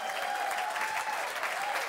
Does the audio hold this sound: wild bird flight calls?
no